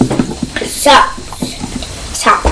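Sloshing and splashing as a new storage box is swished around in a container of hot water to soak its label off, in irregular bursts with brief gurgling swells.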